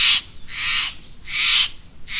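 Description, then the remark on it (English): A Steller's Jay calls in a series of harsh, raspy squawks, about four loud scratchy bursts in an even rhythm with short pauses between them. No one speaks. “Picture yourself holding a big blue Steller's Jay.”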